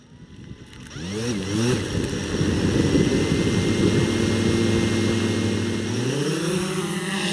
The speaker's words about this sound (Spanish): Ese zumbido es el de un dron blanco del tamaño de un disco de acetato, que vuela sobre un despoblado del municipio de García, a menos de una hora de la norteña ciudad de Monterrey.